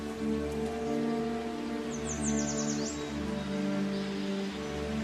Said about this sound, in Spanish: Aquí sopla el viento, los árboles se mueven, sus hojas se escuchan y en esas hojas anidan los pájaros. Este lugar se encuentra a 2 kilómetros del centro de Torres de la Alameda.